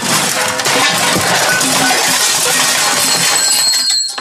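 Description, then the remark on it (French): A loud crash as a rolling, spinning chair slams into piles of paper in an office, with clattering and rustling tumbling on for several seconds before settling. No voices are heard. “Bart heurta l'une des nombreuses piles de papier qu'il avait, par miracle, réussi à éviter jusque-là.”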